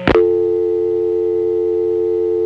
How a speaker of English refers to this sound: Whoa, I can see the phone patch I used at the time messes up the sound of dial tone coming on. This is what it should sound like.